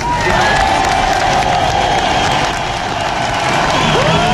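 A large audience applauds and cheers loudly and steadily, a dense wash of clapping with scattered whoops and shouts running through the whole stretch.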